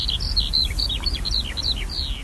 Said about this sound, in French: Un oiseau que tout le monde a entendu, je pense, enfin presque tout le monde, c'est l'alouette des champs, qui est l'oiseau qu'on entend chanter au-dessus des champs de blé en été.